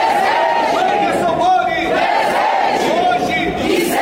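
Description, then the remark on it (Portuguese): A large protest crowd shouts the name of murdered city councillor Marielle Franco in unison, a loud, sustained roar of many voices with rhythmic rises and falls in the chant over about four seconds. “Passados 8 anos, o grito que marcou a revolta contra o assassinato da vereadora Marielle Franco e de seu motorista Anderson Gomes continua ecoando forte em manifestações, eventos e solenidades em que o crime é lembrado.”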